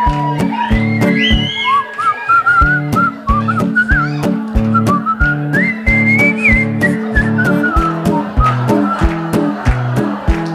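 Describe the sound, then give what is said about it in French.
A live concert audience whistles along, a clear melody rising and falling over live band music with a steady, punchy beat and deep bass, the whistling carrying the tune loudly throughout. “Tout le monde s'est sifflé ?”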